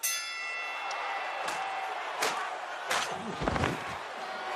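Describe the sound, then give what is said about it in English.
A knockout punch in a televised boxing match, a Mexican boxer being knocked out: a steady arena crowd roar with a few sharp impacts landing in quick succession, and the crowd swells briefly near the end. “I think the Mexican guy just got knocked out.”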